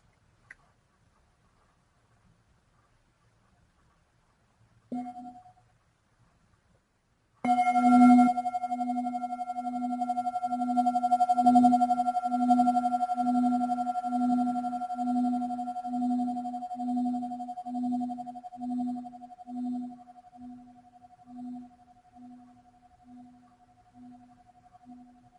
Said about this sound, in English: May we hear one sound of the bell.